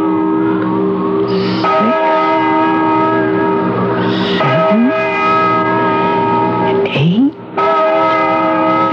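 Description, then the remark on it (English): A deep, resonant bell tolls three times at slow, even intervals, each loud strike blooming into a long humming ring that overlaps the next, with no voices present. “Listen to that bell.”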